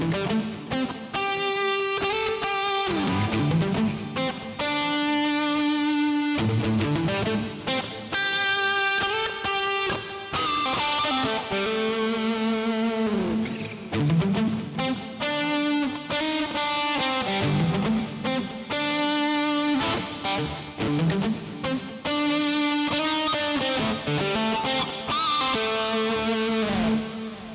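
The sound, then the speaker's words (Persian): A distorted electric guitar plays alone for about half a minute, sustained gritty chords and riffs ringing out loud, with rich buzzing overtones and no voices. “و صدای همراه با دیستورشن اون به این صورته.”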